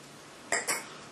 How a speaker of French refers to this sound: Et observez le son en fonction des endroits où vous claquez votre palais. Est-ce que c'est plus fort, plus clair, plus faible d'un côté ou de l'autre, devant ou derrière?